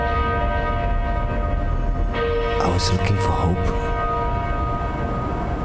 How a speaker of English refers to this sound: When I heard the bells,